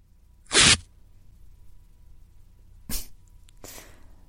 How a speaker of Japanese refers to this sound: まずは、非常に地味だが、陰毛をガムテープで抜くか。